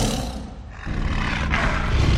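tiger roaring

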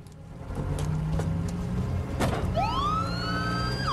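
ambulance siren wailing

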